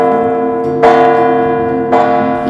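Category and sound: signal or alarm, church bells ringing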